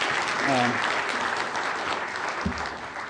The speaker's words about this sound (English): A round of applause for all the speakers so far.